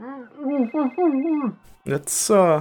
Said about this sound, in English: It's not this phone ringing.